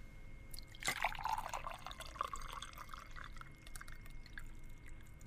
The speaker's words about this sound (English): tell us if you think this water that I'm about to pour is hot or if it's cold. Are you ready? I am ready. Okay, turn the music off. Okay. Here we go. Glass number one.